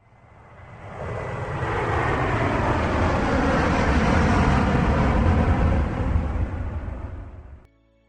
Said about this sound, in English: During takeoff, see if you can enjoy the feel of the acceleration. These jetliners have lots of power and can really move.